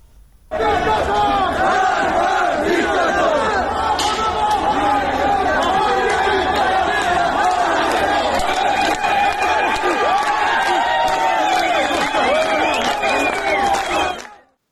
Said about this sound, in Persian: شعارهایی هم داده شد، از جمله شعارهایی که خب داده می شد یکی نترسید نترسید با هم هستیم و همینطور مرگ بر دیکتاتور که در فیلمهای متفاوتی که می اومد این شعار داده می شد.